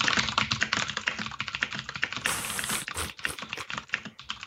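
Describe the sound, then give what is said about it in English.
Rapid typing on a computer keyboard, a dense, continuous clatter of key clicks with no pauses and no voices. “Give me a little sample of that keyboard magic.”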